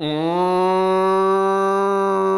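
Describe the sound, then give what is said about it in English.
A single long cow moo, loud, holding a steady droning pitch for about two seconds with a slight rise at the start and no talking over it. “I grew up not too far away from a cow farm, and you know what you hear?”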